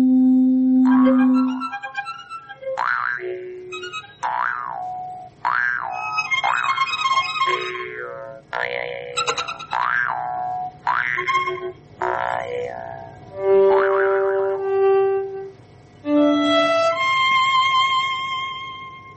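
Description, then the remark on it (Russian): Large red-wine glasses bought at IKEA, rubbed by wet fingers dipped in a little water by musicians not playing their instruments, giving a run of sustained ringing tones at shifting pitches, some swelling and sliding, strung together like a slow melody with no talking. “Они зачерпывают понемножечку водички и вот так вот по нему водят мокрым пальцем.”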